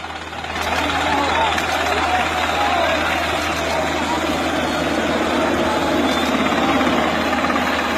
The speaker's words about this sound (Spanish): El helicóptero. El helicóptero lo que hace es bajar y tirar aire a modo de dispersar a los migrantes.